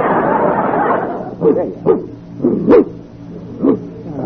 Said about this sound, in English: Well, you know, it's really a lovely dog. But don't you think it's just a little bit too big for the children? Well, it may be big, but it's very gentle.